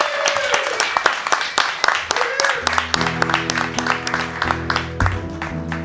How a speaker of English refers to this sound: A round of applause